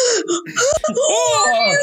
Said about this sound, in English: When the lights return, a ghostly man is standing in the middle of the group. They all scream.